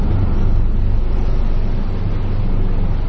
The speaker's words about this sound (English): I always get concerned when those helicopters go over. It nearly always means that there's something very serious happening at the hospital